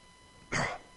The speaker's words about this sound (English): I coughed and lost my train of thought. Still happens.